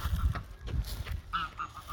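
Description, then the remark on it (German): Geese honk repeatedly as they fly, in a loose, overlapping series, moderately loud, with a low rumbling background underneath and no clear speech. “Die Gänse fliegen.”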